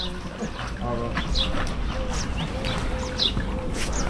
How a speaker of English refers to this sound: Sounds like a wood pigeon.